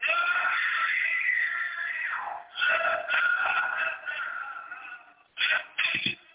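A woman's loud, sustained scream rises and falls in pitch for several seconds, broken by short gasping pauses before two more shrill bursts near the end. No talking can be heard.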